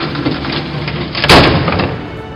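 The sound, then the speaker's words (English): A big door in a tree trunk opens with a dense, rumbling surge of noise that swells sharply near the middle and then slowly fades. There is no talking. “And suddenly, a big door opened in the trunk.”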